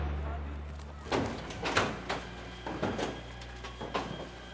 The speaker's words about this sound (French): Alors, on est en face là, de l'usine d'incinération d'Ivry. On entend des grosses explosions là, de temps en temps. Là. Ah, c'est quoi? Bah, parce que quand on ramasse les poubelles, on ne sait pas ce qu'il y a dedans.